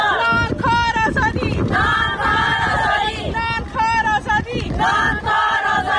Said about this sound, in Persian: زنان معترض در راهپیمایی اعتراضی اعضای ائتلاف مستقل جنبش های اعتراضی زنان افغانستان در اسلام آباد پایتخت پاکستان برای آزادی همقطارانشان.